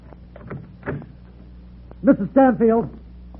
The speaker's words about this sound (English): Now, look, something's wrong. Open the door, will you? You can come in with me.